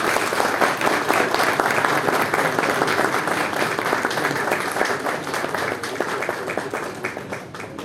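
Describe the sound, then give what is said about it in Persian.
Steady applause from an audience, dense overlapping claps sustained at a fairly even loudness for the whole stretch without pause. “استدعا می‌کنم شایسته تشویق بفرمایید جناب آقای مهندس مددی را.”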